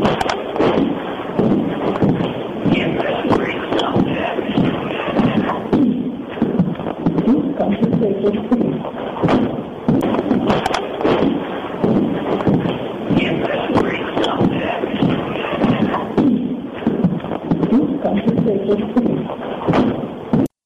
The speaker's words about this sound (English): Okay, now I hear two voices there. I hear footsteps walking across the wooden floor, and then I hear a very raspy, it sounds like mm-hmm. it could be a male voice.